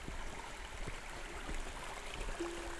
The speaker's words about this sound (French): Pour l'instant, sérénité du clapotis de l'eau.